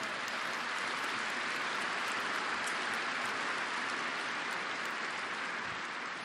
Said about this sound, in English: They're appreciated by you, and we want to give you a chance to applaud them.